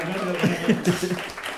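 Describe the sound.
A brief burst of steady applause, a dense crackle of clapping that carries on for over a second, with voices and a little laughter rising over it.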